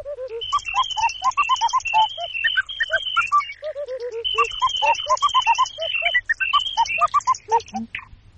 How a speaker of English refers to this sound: Another lot of sounds that we've got loaded in are birdsong, and you could actually play the tune with the sound of birdsong instead of the sound of typewriters.